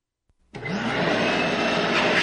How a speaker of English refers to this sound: Now we're going to vacuum out the saliva from your mouth.